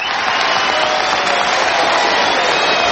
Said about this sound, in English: And here he comes now, receiving a hero's welcome from the crowd. Typically Doddy, shaking hands with all the babies and kissing all the mothers.